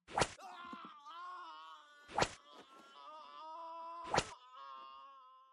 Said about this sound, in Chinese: 叫得好惨呀，这声音听起来真是赏心悦目呢，连身上红色的蜡油都被打掉了，下面的皮肤也被鞭子上的刀钩扯了好多下，血淋淋的。